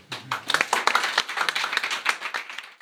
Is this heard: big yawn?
no